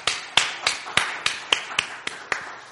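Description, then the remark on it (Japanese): A church audience applauds together in a steady, rhythmic beat in response to the announcement of nine newly appointed church officers, sharp claps landing about three times a second over a constant wash of scattered clapping. No one speaks. “どうぞ拍手を持って私たちに応答したいと思います。”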